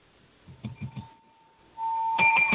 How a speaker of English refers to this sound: your bell's a little lame. I know. It's not feeling well today. It's like I was beating it too hard or something.